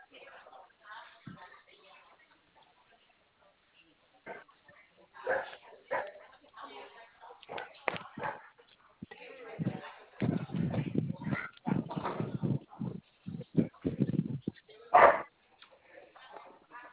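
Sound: dog barking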